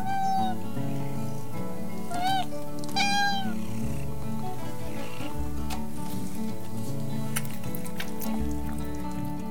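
A cat meows two or three times in quick succession, short rising-and-falling cries heard clearly over steady background music with a full, sustained tone.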